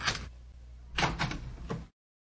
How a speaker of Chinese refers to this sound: 对不起啊，我马上开门啊。